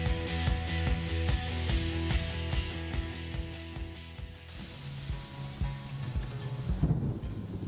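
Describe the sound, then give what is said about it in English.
Thunder rumbles through a steady rainstorm, with rain hissing loudly over a rhythmic, tonal musical bed; no one speaks. “Comes to a rainstorm, the soundtrack we hear is everything. Birds or thunder shape the mood and tell a story.”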